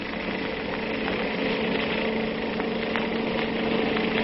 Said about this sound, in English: Yes, he's turned off on the road to Lover's Leap. I'll have to step on it. Here we go. Now, this motorcycle can certainly travel.